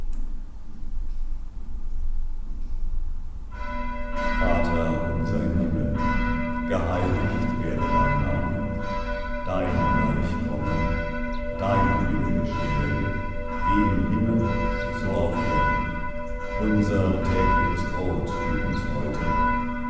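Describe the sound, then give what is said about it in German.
Church bells ring loudly and continuously for the Lord's Prayer, overlapping peals starting after a few seconds of low rumble and sustaining with rich, resonant harmonic tones throughout, no voices heard. “Lasst uns mit dem Einsetzen der Glocken das Vaterunser sprechen.”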